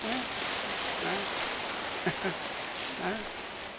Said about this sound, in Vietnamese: Quý mà, đáng tán thán, đáng cho một tràng pháo tay thật to. Đấy.